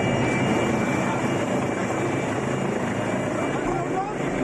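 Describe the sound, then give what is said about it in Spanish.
A Guardia Civil mountain rescue helicopter hovers in the Aragonese Pyrenees while rescuing a skier stranded on steep terrain. Its right skid is held less than half a metre from the rock. The rotor gives a loud, steady roar with a rapid thudding pulse that holds constant throughout as it keeps position. “Un helicóptero del GRAIM, el Grupo de Rescate Especial de Intervención en Montaña de la Guardia Civil, lleva a cabo un complejo rescate de un esquiador que ha quedado enriscado en una zona muy complicada y de mucha pendiente.”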